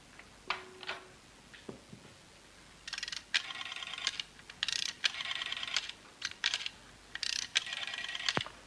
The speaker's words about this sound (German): Komisches Geräusch in der Wand. Tickt immer noch.